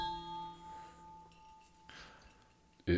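A bell rings with a clear, sustained metallic tone whose lower overtones fade within a second while a high hum lingers, then a brief loud thump cuts in at the end.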